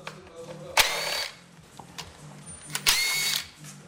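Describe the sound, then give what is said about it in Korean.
Two sharp, high-pitched bursts of a power drill whirring in an auto repair shop full of the smell of oil, each lasting about half a second, over a steady low pulsing mechanical hum, with no voices. “지금도 기름 냄새 그득한 자동차 정비소에서 쉼 없이 자신의 꿈을 조립하고 있습니다.”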